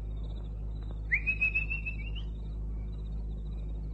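A person at a kitchen door gives one sustained whistle to call the dog Boadicea, pitched high and rising slightly for about a second, clear against a quiet hum with no talking.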